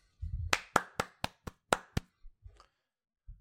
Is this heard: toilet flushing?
no